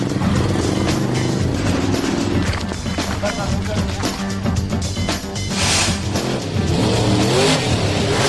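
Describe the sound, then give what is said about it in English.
Loud, continuous engine roar of methane-powered, supercharged monster trucks revving and accelerating off at the start of a race, with a dense, rising growl that stays steady throughout, with a voice talking over the din. “Monster trucks were invented in that tasteful, self-effacing decade, the 70s. Today, they're methane-powered and supercharged.”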